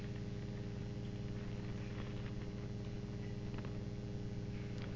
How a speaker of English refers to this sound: Do you hear it? There's a hum. I hear air conditioning blowing.